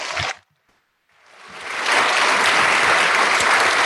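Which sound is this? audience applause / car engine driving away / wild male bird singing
audience applause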